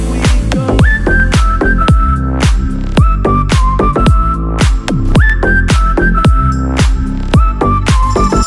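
A catchy whistled melody repeats in short, bouncy phrases over a loud, punchy dance beat with steady bass thumps, the whistle sitting clearly on top of the dense music.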